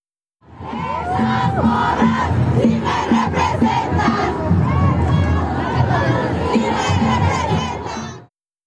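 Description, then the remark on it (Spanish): A large crowd of women chants and shouts together at a women's march, recorded on a mobile phone: a dense, loud wall of many voices, some high-pitched, sustained without pause for about eight seconds. “Minutos después, saqué mi celular y comencé a grabar audios del paisaje sonoro del que eran testigos mis oídos.”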